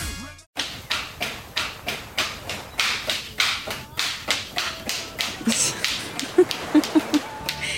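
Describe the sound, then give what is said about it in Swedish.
Light, quick footsteps patter along in a steady rhythm, roughly three sharp taps per second, continuing for several seconds with a few duller thumps near the end. “Vad är det för små steg?”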